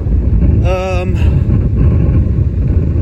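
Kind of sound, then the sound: nature, wind picking up outdoors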